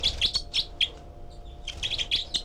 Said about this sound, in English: Recording back at cell four, and I've got the parabola surrounding the microphone now. And this is the group of four birds. And 306 is the loud one. 318 giving begging calls.